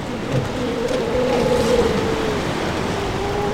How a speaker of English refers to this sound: It's almost like they're singing. We cut the engine again and we drift. And before long, we can hear it. Seal songs.